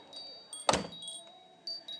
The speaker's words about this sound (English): I'll just show you what a difference it makes when I close the door, the double glazing patio door.